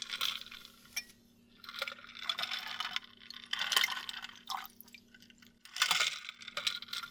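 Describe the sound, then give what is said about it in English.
Water splashes and trickles into a cup in several bright bursts, with short pauses between pours, over a faint steady hum. “And here I am, back with your cup of water. Let me pour it for you.”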